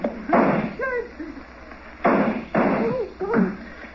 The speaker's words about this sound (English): I think that did it. Come on, let's try it. Huh? Try what? The door, you idiot. I fired at the lock.